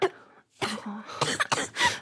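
human body sound, coughing

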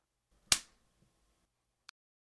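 impact, hand slap on skin

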